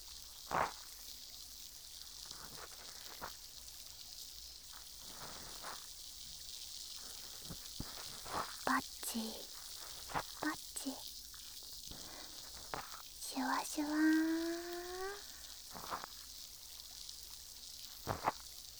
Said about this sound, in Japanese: 耳の奥までシュワシュワ音が響いて気持ちいいですか？